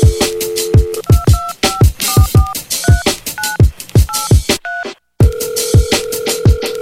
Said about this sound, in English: People calling me, asking me for money, man. The only thing I'ma give you, motherfuckers, is the dial tone.